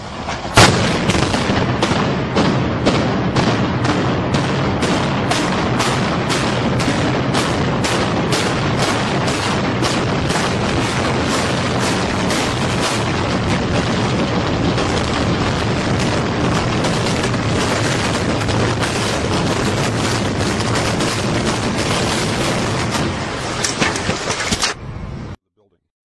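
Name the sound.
explosions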